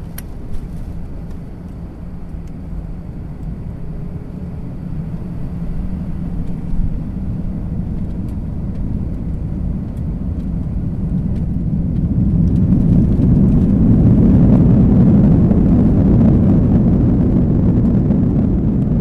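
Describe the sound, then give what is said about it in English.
An airplane taking off on a flight to Washington, D.C.: a steady, deep engine rumble that swells about two-thirds through into a louder, fuller roar and holds there to the end, with no voices. “So sit back, relax, while we begin our trip by flying to Washington, D.C.”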